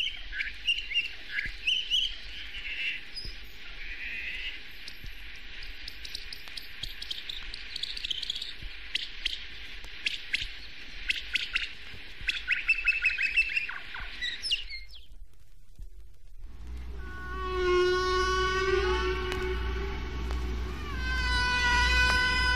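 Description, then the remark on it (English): High, rapid chirping and squealing phrases, bird-like and tightly patterned, play over a steady hiss; after a brief gap, louder gliding whistles and harmonic calls continue. No voices. It is humpback whale song sped up fourteen times to birdsong speed. “A good way to hear the patterned structure of humpback songs is to speed them up to birdsong speeds.”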